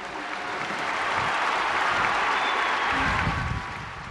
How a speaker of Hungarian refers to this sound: A szentatya megjelent dolgozószobája ablakában, akit a téren azonnal üdvrivalgással és lelkes tapssal köszöntöttek a hívek.